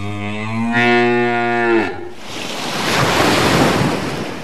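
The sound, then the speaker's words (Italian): A single long, low, droning whale call with a slight rise in pitch lasts about two seconds, then gives way to loud rushing surf and wind. “Una terza balena, che passava per caso di lì, gridò alle altre due.”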